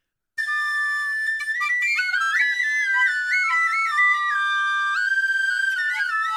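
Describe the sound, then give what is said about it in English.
A penny whistle plays a lively, ornamented tune, bright and shrill with quick stepping notes, fairly loud, continuing steadily for several seconds with no voices. “Eric, let's give them a little penny whistle serenade.”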